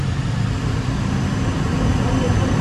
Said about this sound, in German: Der Zug setzt sich jetzt gerade in Bewegung.